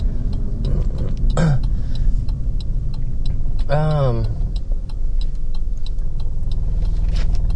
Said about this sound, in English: My car is vibrating. That's what you're hearing right now. My car is getting old.